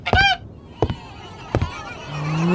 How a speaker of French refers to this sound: Qu'est-ce que c'est? C'est une oie.